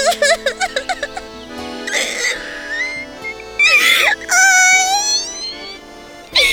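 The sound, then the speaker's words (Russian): A voice imitates a hare crying: quick rhythmic sobs at first, then long, high, wavering wails that rise and fall, fairly loud, with no talking. “Вот заяц опять сидит и плачет.”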